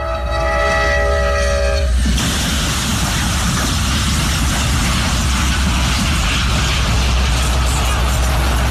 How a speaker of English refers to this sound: People were watching because sooner or later, a passenger train was coming. So listen to the person who's videoing, and then listen to the actual sound of the Amtrak train hitting the tractor trailer.